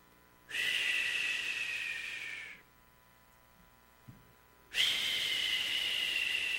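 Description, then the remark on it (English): Two long, steady whistled notes, whistled to call rats, each lasting about two seconds with a slight downward drift in pitch, separated by a short quiet pause. The whistling is clear, with no talking. “He could whistle, and rats would come.”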